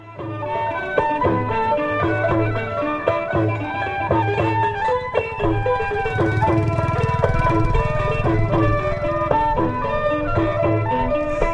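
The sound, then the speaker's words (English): Lively traditional music from a roadside wedding in Cambodia: dense, sustained melodic instruments with steady low drone or drum pulses, played loud and continuous throughout, with no talking heard. “Today's sound comes from Willie Weir when he was in Cambodia, a roadside wedding.”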